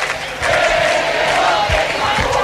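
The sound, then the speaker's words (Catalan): A large crowd chants the slogan "que te vote Chapote" in unison at the PP headquarters, loud and sustained, many voices shouting together in a rhythmic, rising and falling pattern with no single speaker standing out. “Escolteu, que te vote Chapote a la seu del PP.”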